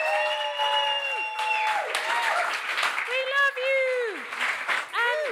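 An audience at a live comedy show applauds steadily for a duo, and loud, high-pitched whoops and cheers rise and fall over the clapping throughout, filling the whole stretch.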